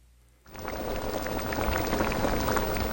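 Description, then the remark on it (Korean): After a brief moment of quiet, a pot of water starts boiling and bubbling, a dense, steady simmer of popping bubbles that continues evenly to the end, with no voices. “왕릉이 화가 나서 두 손가락으로 고기를 꺼내 땅바닥에 던져버리자 오라는 무감각한 표정으로 나오더니 고기를 집어 물로 씻어 다시 부글부글 끓는 냄비 속에다 넣었다.”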